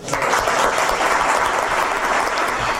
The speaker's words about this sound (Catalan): Aplaudiments